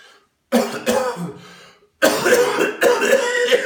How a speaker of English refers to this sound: And the coughing sessions can take 2 to 3 minutes. And then you sip the tea. Okay. When you sip the tea, you go back to coughing.